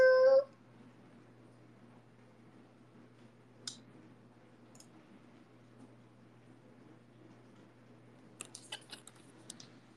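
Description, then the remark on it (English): A cat lets out a short meow at the start, then only a low steady hum remains, broken by a few soft scattered clicks and light taps near the end as the cat walks around. “Your cat's doing steppies.”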